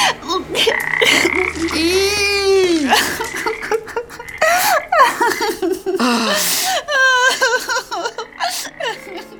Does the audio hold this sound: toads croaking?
yes